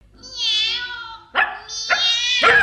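A small dog gives a long, high-pitched whine, then three quick, sharp yapping barks, each following right on the last, with no one talking; the dog jumps out of a balloon basket after a cat.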